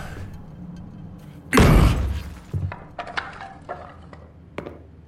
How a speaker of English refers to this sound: His fingers briefly traced over the pair of bullet holes in his chest as he sighed deeply and put his boot through the double doors.